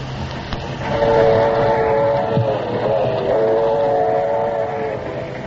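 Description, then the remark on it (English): A passenger train rolls along rails with a steady rumble, while a long, sustained horn blast sounds over it for several seconds. No one speaks. “No, I've barely time to catch me train.”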